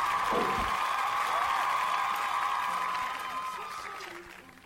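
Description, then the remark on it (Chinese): An audience claps steadily for several seconds, a dense, even patter of many hands that gradually thins and fades toward the end, with a faint sustained tone running underneath. The applause thanks a participant for sharing a Christmas memory. “好 的, 好 的， 那么再一次把掌声 给我们 送给你 分享，谢谢、 嗯、谢谢。”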